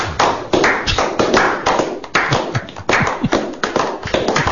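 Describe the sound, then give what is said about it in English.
An audience bursts into steady applause for game show host Bill Cleveland, many hands clapping in a dense, loud patter that swells and holds for several seconds with slight surges in intensity. “Hey, weren't we talking about people clap?”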